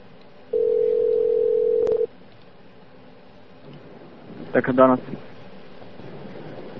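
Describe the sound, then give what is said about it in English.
A steady, low telephone dial tone hums for about a second and a half, then cuts off with a sharp click as someone dials out, entering plus one and then the number. After a short pause comes a brief, voice-like burst. “Yeah, plus one, then the number. Then the number? All right, let me try again.”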